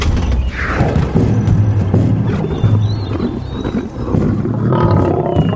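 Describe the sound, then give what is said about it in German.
A lion roars and growls loudly, a deep, rumbling sound that continues for several seconds with only brief dips in intensity. “In genau dem Augenblick, als ich die Autotür aufmachen wollte, sprang nämlich ein Löwe auf unsere Motorhaube.”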